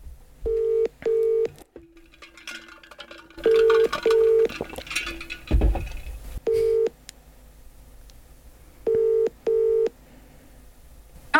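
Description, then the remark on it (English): An outgoing phone call ringing, with short paired electronic ring tones repeating every few seconds as if heard from a handset speaker, plus a brief thump midway and no talking. “Let me ring him. I don't know if he'll answer.”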